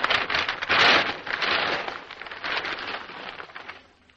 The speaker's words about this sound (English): A thunder drum being struck continuously. And some heavy wrapping paper being crushed into a ball in front of the microphone.